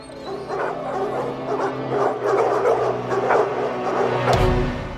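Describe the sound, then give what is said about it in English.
Several dogs, a band of stray dogs in the Hungarian film White God, bark and yip over one another in a steady, excited clamor, with whimpering mixed in and a low rumbling hum underneath, ending with a dull thud. “Hagen ends up in a band of stray dogs that rise up against the humans”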